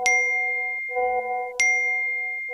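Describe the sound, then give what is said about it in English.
Bright electronic notification dings from a WhatsApp chat group being infiltrated, two sharp chimes about a second and a half apart, each ringing on with sustained tones in between, clear with no talking. “This is the sound when a chat group is infiltrated. Images and warnings and rapid-fire names, cell phone numbers, and comments are all scooped up.”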